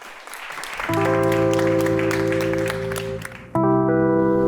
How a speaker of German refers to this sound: Applaus.